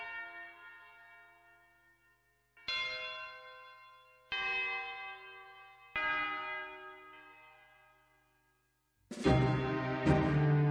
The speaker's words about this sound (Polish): utworem, który rozpoczyna bicie dzwonu z Kaplicy Ostrobramskiej.